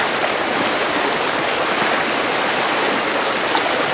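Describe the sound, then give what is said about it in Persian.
Steady, continuous rush of flowing spring water, fairly loud, a broad hissing babble with no pauses and no voices throughout. “البته نه توی این چشمه، اون طرف.”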